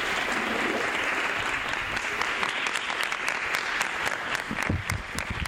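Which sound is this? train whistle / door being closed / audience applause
audience applause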